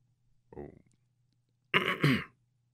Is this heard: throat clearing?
yes